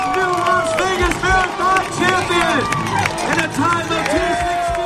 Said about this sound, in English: The Las Vegas Strip, still dark, is lit up by millions of lights and fireworks. The crowds are cheering wildly.